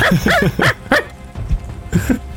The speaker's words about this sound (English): One of these dogs were fucking barking, dude. I couldn't fucking focus.